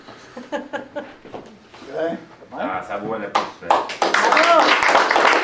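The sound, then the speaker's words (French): Voices talk at first, then a group bursts into loud, steady applause for a person just congratulated, a dense rush of many hands clapping together that carries on to the end with voices mixed in. “Ah, ça vaut un applaudissement.”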